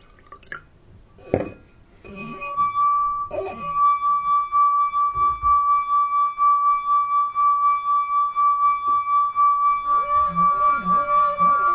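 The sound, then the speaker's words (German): A pure, sustained singing tone from a rubbed wine glass rim swells in after a few light clinks and taps, then hums steadily with a gentle pulsing waver until the end. “Das klingende Glas”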